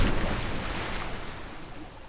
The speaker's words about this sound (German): Das hier ist Wasser.